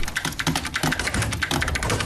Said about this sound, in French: Ses doigts fusent sur son clavier d'ordinateur.